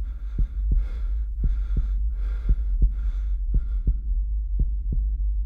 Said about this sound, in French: Sa respiration s'accélère, son pouls file, rapide.